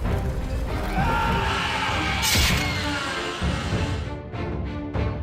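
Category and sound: crowd, crowd roaring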